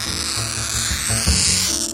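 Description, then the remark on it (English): A diamond-tipped wheel glass cutter, lubricated with oil and pressed down fairly hard, scores across glass with a steady, gritty, high-pitched hiss that holds for about two seconds, fairly loud, with faint low rumbles beneath and no speech. “You just press down fairly hard and score it like this.”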